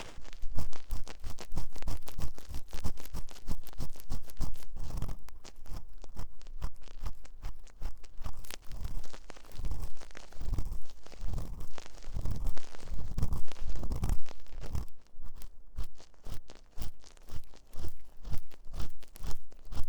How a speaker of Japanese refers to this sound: 勝手に私をかわいそうな人扱いする君にはお仕置きの耳かきだ。